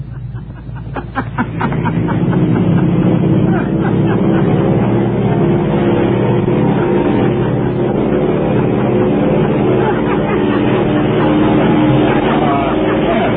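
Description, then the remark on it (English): An airplane engine spools up into a loud, steady roar as it takes off, with a pilot's laughter briefly audible over the engine near the start before the droning sound holds constant. “Is the sound of an airplane taking off with a pilot laughing.”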